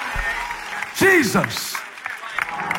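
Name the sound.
audience clapping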